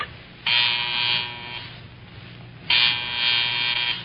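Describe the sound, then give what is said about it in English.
A telephone buzzer rings in two harsh, raspy bursts as the phone is buzzed to test it, each burst lasting over a second, separated by a short pause, with a steady electric drone beneath and no voices. “You gonna buzz the phone? Yeah, right now. I hope it works.”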